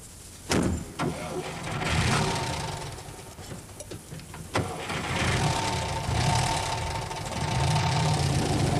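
A car engine starts with a few sharp clicks, then rumbles steadily and revs as a handsome car pulls away and drives off on a long trip, fairly loud throughout.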